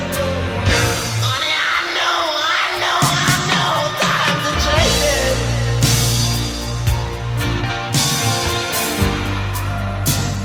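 Loud, dense rock music with raw shouted screaming vocals over heavy guitars and pounding drums, sustained and intense throughout.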